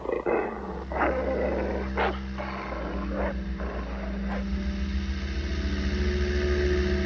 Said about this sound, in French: And as for the rest of the men, he's just an attack dog. Understood?